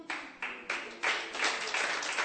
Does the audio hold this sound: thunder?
no